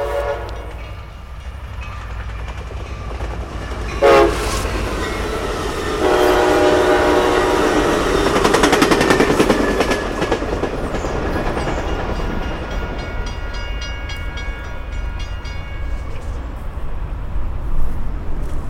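A train roars past at speed, its horn blaring as the loud rumble swells, then the clatter fades into a steady hum. No one speaks.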